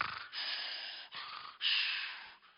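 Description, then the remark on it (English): A voice imitates a sleeping monster's snoring with several loud, rasping breathy snorts in quick succession, harsh, with brief gaps between each exaggerated snore. “But the monster is sleeping, snoring away.”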